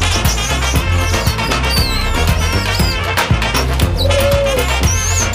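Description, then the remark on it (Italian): High, thin squeaks and chirps of rats squeaking and pigeons cooing on a tasting counter dart in and out of a loud, dense, continuous backdrop that rumbles steadily underneath for several seconds. “Le suggerisco piuttosto di interrompere il baccanale per il matrimonio misto tra ratti e piccioni sul bancone adibito alla degustazione.”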